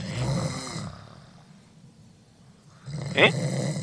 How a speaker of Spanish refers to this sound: Ah, ya se durmió. Ronca como yo.